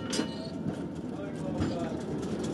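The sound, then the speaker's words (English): A tourist tram on an earthquake tour in Christchurch rolls along its rails with a steady, continuous rumble and faint metallic rattling, while indistinct voices murmur underneath. “Trams carry tourists on earthquake tours.”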